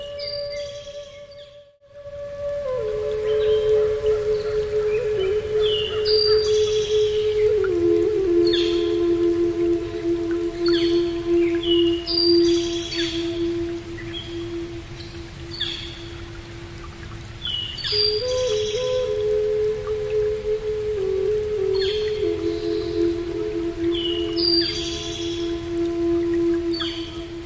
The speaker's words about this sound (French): Devant nous, à 5 pas, il y a un étang. Il y a plein de pluie qui tombent dedans.